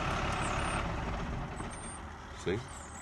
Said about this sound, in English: And here, you put in the EPTO button, the engine will shut off, but then it'll go right into the hybrid system.